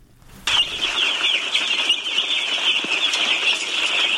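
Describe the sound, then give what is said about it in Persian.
A dense, continuous chorus of high, shrill peeping from many day-old chicken chicks, recently brought from Pakistan to be raised on a farm in Tutamdara village, centre of Parwan province, Afghanistan; it starts abruptly and holds steady and loud. “چوچه های یک روزه مرغ به تازگی از پاکستان آورده شده و قرار است برای پرورش در قریه توتمدره مرکز ولایت پروان داخل یک فارم شوند.”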